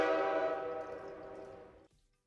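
A loud, sustained train horn blast with rich stacked harmonics, holding steady for nearly two seconds before cutting off abruptly, like a soundboard effect.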